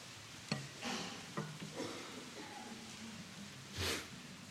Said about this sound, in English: Turn with me, if you could, to Ezekiel chapter 9. What a passage. Ezekiel chapter 9, page 836. I love the sound of rustling pages. Ezekiel chapter 9, page 836.